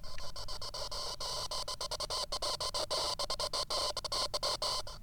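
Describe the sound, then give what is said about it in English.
A teapot whistling on the stove, not as loud as it usually is: a steady, breathy, high hiss with a faint tonal edge, holding at an even loudness for several seconds and flickering with rapid brief dropouts. “And now my teapot's howling.”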